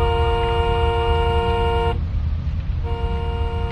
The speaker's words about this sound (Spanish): Tocamos el claxon del carro.